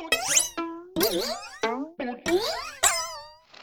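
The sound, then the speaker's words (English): A rapid series of springy cartoon boing sound effects from the Warner Brothers sound effects vault, about six wobbling twangs in a row with bending pitch, loud, no talking. “Like in here, we've got your boinks, plucks, and pings.”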